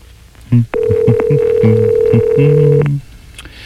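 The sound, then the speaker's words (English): A telephone line hums with a steady tone while a quick series of short dialing beeps plays, ending on a longer held tone; no one speaks. A call is dialed to directory information from the KISS 98.5 radio show to get the area code for the White House in Washington, D.C. “We're calling information.”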